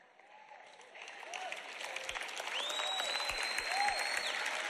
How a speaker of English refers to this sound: Well, that clap started kind of low.